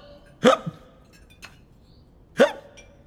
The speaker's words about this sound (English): Suddenly, the king hiccups. The king's hiccups are back. Oh, sir, poor sir.